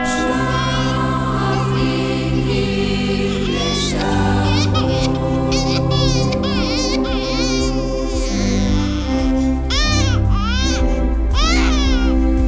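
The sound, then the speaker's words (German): A newborn babbles and lets out short whimpering cries, close by, the rising and falling vocal bursts repeating over a steady, sustained musical background. “Deshalb ist die Heilige Nacht auch noch still, wie es halt so üblich ist bei neugeborenen Babys.”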